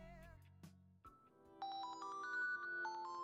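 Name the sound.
mobile phone ringing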